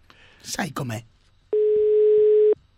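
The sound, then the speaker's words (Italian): A short burst of speech, then a single steady telephone ringing tone sounds for about a second, clear and fairly loud, as an outgoing call from the radio show La Zanzara waits to connect. “Quando squilla un telefono però...”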